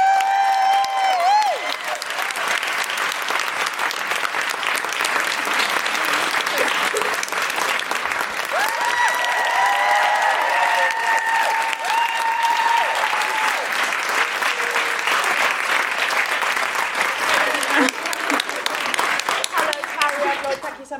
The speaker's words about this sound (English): Yeah, it took Carrie a while to get to the stage. That's why I sort of, I didn't want the applause to die